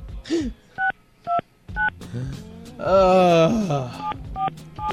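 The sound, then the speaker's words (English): A string of about half a dozen telephone keypad tones beeps in a steady, evenly spaced rhythm, clear, with a brief wavering vocal sound from someone breaking in partway through. “Use that phone.”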